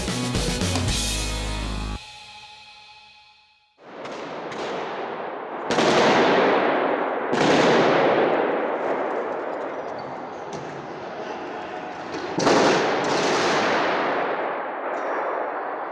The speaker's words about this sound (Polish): Słyszeliśmy tylko krzyki i strzały. Strzelali do wszystkiego, co się ruszało, mówili świadkowie.